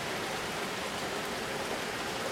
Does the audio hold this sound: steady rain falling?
yes